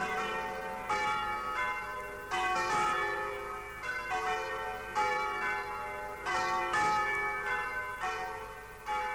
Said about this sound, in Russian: Пойдем, отец. Слышишь, колокол звонит. Что бы это значило? Опять что-нибудь неприятное?